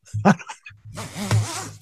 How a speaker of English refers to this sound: Right when you said that, I heard a zipper go down, which is really, I don't think.